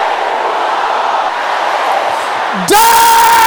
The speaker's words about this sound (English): Every power that hates my happiness, can I hear you shouting that? Your voice is not loud enough. Your voice is still not loud enough.